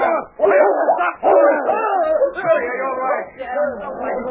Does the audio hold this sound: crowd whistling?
no